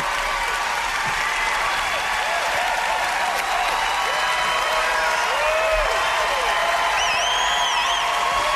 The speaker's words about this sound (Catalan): L'aplaudiment més llarg de la nit, de moment.